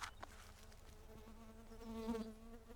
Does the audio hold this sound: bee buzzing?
yes